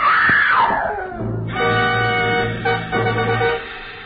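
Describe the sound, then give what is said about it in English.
An old woman screams at a two-story wooden house on a cliff above the ocean, a loud, high-pitched cry that slides downward, then gives way to a long, strained wail lasting several seconds before it breaks off. “Inside, I found an old woman whom I figured to be my client, leaning against a half-open kitchen door, sobbing and clenching at the gingham apron she wore like it would keep her from screaming again.”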